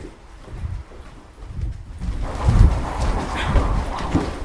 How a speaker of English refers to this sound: Oh, that is loud. Wow. You heard it okay? Yeah, that's very loud. Yeah. So it's a thick door, but it resonates quite well. Yeah, you hear it through the whole building.